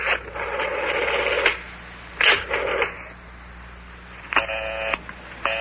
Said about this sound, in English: Is everybody talking on the telephone to one another? Boy, every number I dial is busy.